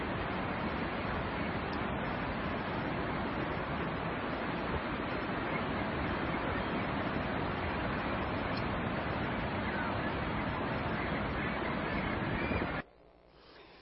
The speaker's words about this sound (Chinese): 嗱，即管我哋去感受一下吓，睇下即系手机录系差啲噶啦，不过都感受一下啦。留意一下咧，嗰啲浪啊，浅起有几高啊，瀑布咧即有几高啊咁样。